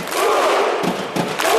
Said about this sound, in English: That's a crowd of Iceland soccer fans cheering on their national team.